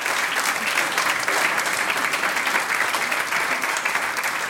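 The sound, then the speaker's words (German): An audience claps steadily for the mixed choir of Bad Leupersdorf, a dense, continuous wash of many hands applauding with no pauses and no voices standing out, staying at an even, fairly loud level throughout. “Alles Gute und Applaus für den gemischten Chor Bad Leupersdorf.”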